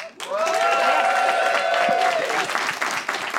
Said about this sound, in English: People only applauded that because I gestured. It was under duress.